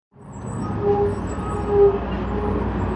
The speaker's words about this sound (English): The first bus comes at 7 a.m. Every morning, 7 days a week, Border Patrol agents drop off hundreds of migrants at the Iris Avenue Transit Center in San Ysidro. And the buses just keep on coming.